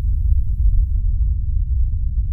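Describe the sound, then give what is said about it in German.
A deep, muffled rumble of traffic with all the higher sounds stripped away, leaving only a steady low drone that holds at an even, fairly loud level throughout. “Dies sind die Frequenzen unter 90 Hertz.”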